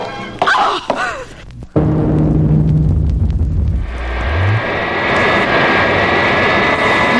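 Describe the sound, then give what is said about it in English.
The steady, loud engine of Wonder Woman's plane drones continuously in flight, its hum shifting pitch partway through, preceded by a few brief whooshing sweeps at the start. “You there in my plane, who are you?”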